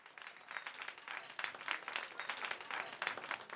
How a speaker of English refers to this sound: That big round of applause